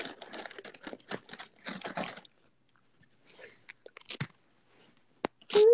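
Crunchy chewing picked up by the microphone for ASMR, a run of loud, crackly bites with brief pauses, then a few sharper crunches and a final burst near the end.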